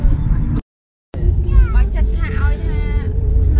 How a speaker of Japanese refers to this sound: はい、ただいまシェムリアップに向かっているタクシーの中なんですけど、車を乗り換えさせられましたね、なんか。